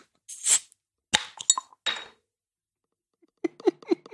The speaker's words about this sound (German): Also es ist schön, dir mal dabei zuzusehen, wie du ein Bier aufmachst. Das schäumt! Ich sehe, das schäumt! Es schmeckt gut, es ist ein Weißbier.